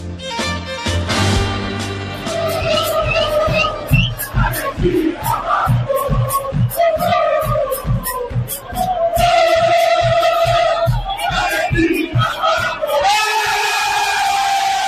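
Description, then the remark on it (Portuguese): A loud crowd of Argentine football fans in the Moca area of São Paulo's east zone roars a celebratory chant in unison as the referee blows the final whistle of Argentina's 2-1 semifinal win over England, voices rising and falling over a steady, pounding rhythmic beat that continues throughout. “Esse é o grito de comemoração dos torcedores argentinos que estavam na região da Moca, na zona leste de São Paulo, quando o juiz apitou o fim de jogo contra a Inglaterra.”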